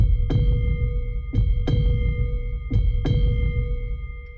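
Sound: heartbeat sound effect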